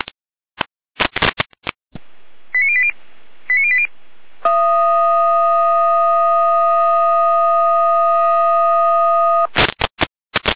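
Bursts of radio static crackle lead into two short high tone bleeps, then a loud, steady multi-pitched fire brigade alarm tone sounds for about five seconds before more crackling bursts, alerting the Ulstedt-Kirchhasel fire brigade to a fallen tree on the B88 between Etzelbach and Ulstedt. No talking.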